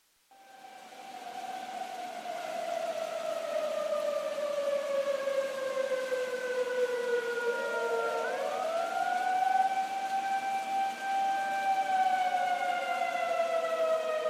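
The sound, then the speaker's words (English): A flood warning siren in Lyons wails steadily in the early hours of September 12, 2013, as the St. Vrain River bursts its banks, its tone sliding slowly downward and then swelling back up in a long, droning rise, loud and sustained throughout. “In the early hours of September 12th, 2013, residents of Lyons were awakened from their sleep by sirens and warnings to move to higher ground.”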